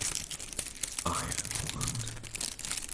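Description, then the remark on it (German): Dry serrated wrack seaweed material being crinkled: a dense, continuous crackling and rustling that lasts about three seconds, with a faint voice briefly audible partway through. “Hört sich auch schon fast so ein bisschen an, wie es vielleicht heißt. Ah. Knisterkraut. Knisterkraut? Nein, es ist Sägetang.”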